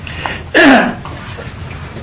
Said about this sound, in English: I'm clearing my throat. I should have eaten. Need water.